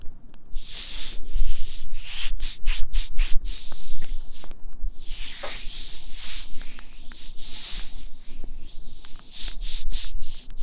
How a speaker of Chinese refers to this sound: 那么现在我要帮你擦拭身体了，可能会有一点点凉，你忍耐一下好吗？